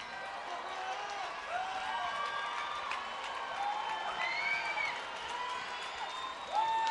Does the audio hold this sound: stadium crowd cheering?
yes